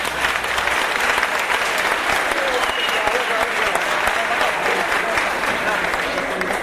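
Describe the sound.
A crowd claps steadily and loudly for several seconds, a dense, even wash of many hands with faint voices mixed into the noise.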